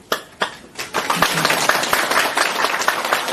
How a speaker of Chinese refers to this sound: 我们现在以热烈的掌声欢迎卢军宏台长。